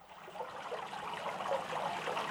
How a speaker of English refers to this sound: The first stop is the fountain on Rathausplatz. Listen carefully. You'll hear the water gurgling.